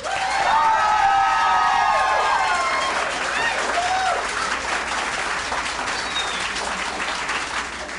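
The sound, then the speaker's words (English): A crowd bursts into loud, sustained applause with whoops and high-pitched cheers and whistles, voting by applause that marijuana should be legalized, the clapping staying strong and steady for several seconds. “How many people here think that marijuana should be legalized by applause?”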